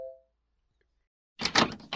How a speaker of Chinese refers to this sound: 开门这么慢的吗？